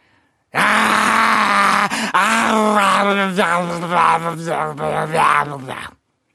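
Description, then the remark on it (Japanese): A man imitates the voice his dog Yukimaru makes when he lies on top of it: one long, strained, wavering groan that lasts about five seconds, rising and falling in pitch. It's loud, with no other sounds. “ですね、僕が、上にのしかかった時の、愛犬雪丸の声。”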